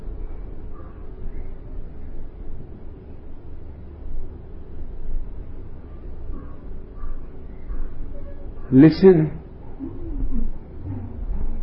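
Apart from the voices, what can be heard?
crow cawing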